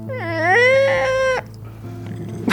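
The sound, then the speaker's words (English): A person's voice imitates the screech of a stepped-on cat: one loud, drawn-out yowl that climbs in pitch and breaks off abruptly, followed by quiet low background hum. “He would make this very strange sound, like somebody stepping on a cat or a baby crying.”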